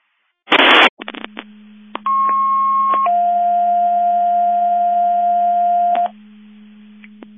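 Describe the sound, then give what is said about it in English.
A short burst of radio static, a few clicks, then a two-tone dispatch alert from a Division 2 Mutual Aid Box Alarm test of alerting receivers at 09:55 hours: a steady higher tone for about a second, followed by a longer lower tone over a faint hum. “This is Qualcomm Mavis Division 2, testing the Division 2 Mutual Aid Box Alarm alerting receivers.”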